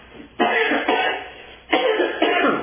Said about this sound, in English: Pardon me for a cough.